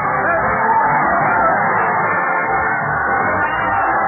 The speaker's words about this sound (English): Let's join the happy crowd, folks. Everybody join.